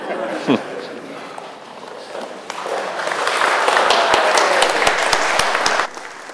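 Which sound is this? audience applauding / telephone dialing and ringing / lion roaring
audience applauding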